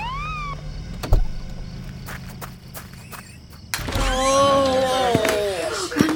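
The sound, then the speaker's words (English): A flashing red ambulance's siren wails with rising and falling tones, faint at first, then louder after a short lull as it arrives in Maine to take an injured grandmother away, over background bustle and scattered footsteps. “Lizzie's grandma, Nora, got hurt, and two men and a lady came in a flashing red ambulance to take grandma away.”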